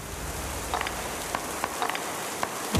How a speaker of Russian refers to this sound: Это Weather Report! Это дождь!